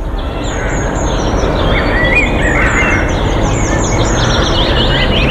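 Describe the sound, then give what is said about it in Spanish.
Outdoor park ambience in winter with many small birds chirping and singing high overhead, steady and continuous, over a broad low rumble of background noise; no one speaks. “Lo que están escuchando de fondo ahora mismo... es el ambiente de un parque en pleno invierno. Pájaros cantando, aire puro, tranquilidad y calma.”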